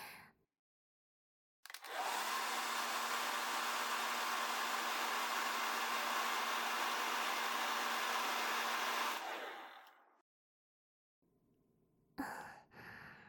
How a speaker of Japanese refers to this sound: あとはガーッとドライヤーをかけちゃいます。